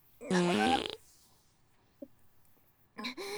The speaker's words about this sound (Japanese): やだ、このままじゃ車内に私のおならが充満しちゃう。みんなに私の臭いおならかかれちゃう。